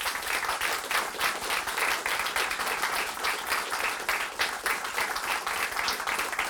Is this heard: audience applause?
yes